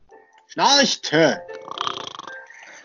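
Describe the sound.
A voice imitates snoring with two loud, rasping, throaty inhales in quick succession, followed by a softer, breathy rattling exhale trailing off.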